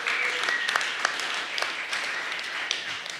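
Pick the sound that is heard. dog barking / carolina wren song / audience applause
audience applause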